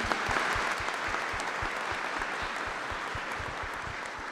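An audience applauds steadily, a dense wash of many hands clapping at a constant loudness throughout, with no voices standing out above it.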